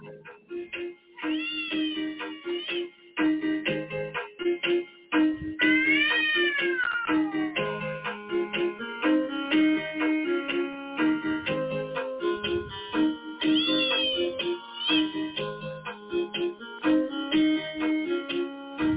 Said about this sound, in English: There you go. Cats. I call that one cat. No. But I call that one cat out of bag. So it's a looping thing I put together.